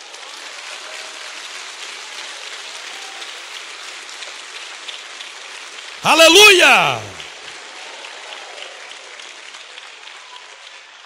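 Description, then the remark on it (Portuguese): An audience at a Christian sermon claps steadily throughout to applaud God, a dense, even patter of many hands, briefly overtaken by one loud voice shouting out before the applause carries on. “Pode aplaudi-lo?”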